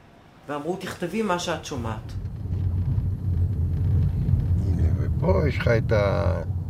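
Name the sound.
car driving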